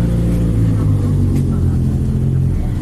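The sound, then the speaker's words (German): Loud, continuous rumble of motorcycle engines revving as a group of leather-clad bikers rides off, a deep throbbing roar with shifting pitch that fills the whole stretch without pause. “Vielleicht sollten wir warten, bis die wilden Motorrad-Jungs hier abgedüst sind.”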